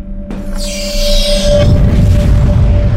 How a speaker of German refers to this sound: Gefechtszähler meldet, dass die 128. LFT-Box im Feuer der beiden frei agierenden Titanen explodiert ist.